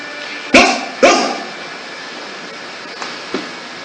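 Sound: dog barking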